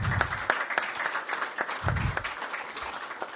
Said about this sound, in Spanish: Así que para ella también un aplauso. Muchas gracias.